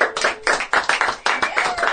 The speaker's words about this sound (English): Yeah, clap.